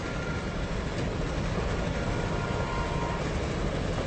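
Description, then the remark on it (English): A passenger train with a dining car rolls steadily along the rails, a dense, continuous low rumble with a constant hiss above it, with no voices. “On this train? Eating at the dining car with all of his silver.”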